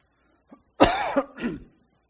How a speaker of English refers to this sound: I'm going to have trouble coughing tonight, I can tell it.